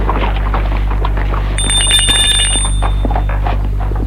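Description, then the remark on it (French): An electric doorbell at a hotel door rings in one continuous high, metallic buzz lasting nearly two seconds, over a steady low hum, with no voices. “Elle sonne à la porte de l'hôtel.”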